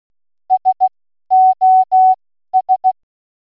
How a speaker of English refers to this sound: As you heard, that was three short tones for S, three long tones for O, and three short tones for S.